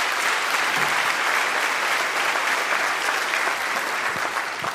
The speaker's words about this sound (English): And you know, it wasn't long after that that I came up to Riverside from Orange County, and we started a Bible study up here at Turn Into the Church You're In Right Now, Harvest Christian Fellowship. So Listen, yeah, that's worth clapping for.